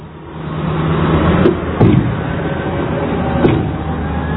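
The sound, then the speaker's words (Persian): Small and large loaders and trucks from various provinces clear flood mud from the streets of Pol-e Dokhtar. A steady, rumbling deep engine drone with a few sharp metallic clunks and bangs scattered through it, with no voices. “از این لودرهای کوچک گرفته تا این لودرهای عریض و طویل و کامیون‌هایی که استان‌های مختلف راهی پل دختر شدند، همه روزانه بارها خیابان‌ها”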